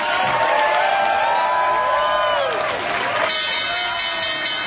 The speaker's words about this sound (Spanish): Escuchan la campana de Wall Street desde el edificio de la Bolsa de Valores de Nueva York, donde se luce hoy la bandera de Colombia junto a la de los Estados Unidos. El presidente Iván Duque fue invitado especial hoy a tocar la campana del cierre